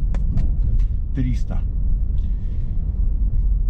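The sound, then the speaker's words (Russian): A steady, deep rumble fills the inside of a moving Mercedes GLC 300 SUV, with a few brief clicks and a short burst of voice partway through, all sitting over the constant low engine and road hum. “Вот это вот та машина, которую сделали специально для меня. Называется Mercedes GLC 300.”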